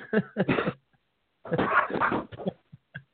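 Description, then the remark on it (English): A dog, Basil, barks in a quick series of sharp yaps, then lets out a longer, drawn-out stretch of barking and whining before trailing off into a few faint yips, with no talking. “you hear this in the background?”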